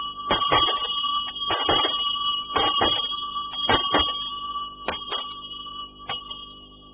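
signal or alarm, loud bell ringing

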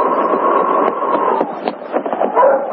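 animal, sled dog barking

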